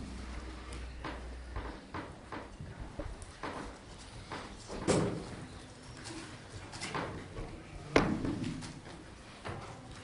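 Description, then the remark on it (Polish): A door swings shut with a sharp thud, following an earlier softer knock, against a steady murmur of room noise with no clear talking. “Teraz mam drzwi, czy”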